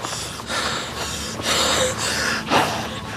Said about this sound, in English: Gasping for breath, he slumps to the floor, removes his headscarf, and wipes his face with it.